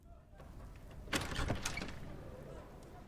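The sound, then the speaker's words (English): A man walks up to a door, stops to look in, then opens it: a short burst of clicks and a rattling latch in the middle, then a low hum carries on to the end. “marches up to the door, but stops and looks in before opening it.”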